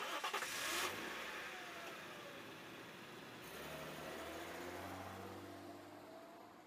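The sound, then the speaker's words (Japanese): A car engine cranks and catches with a short burst, then settles into a steady hum as the car revs and pulls away, rising in pitch, with no voices. “車を出して。”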